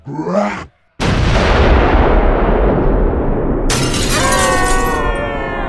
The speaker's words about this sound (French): L'explosion, due au déferlement de la puissance du démon, ont envoyé bouler nos héros loin de l'effrayante citadelle.